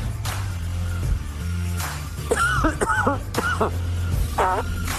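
A man coughs, sneezes and blows his nose in a rapid string of harsh bursts and honks over a steady low rumble, with no talking.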